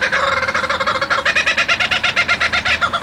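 A kookaburra, a large brown bird, in an Australian national park, gives its loud laughing call, a rapid run of rhythmic, cackling hoots that builds and rolls on without pause, with no voices present.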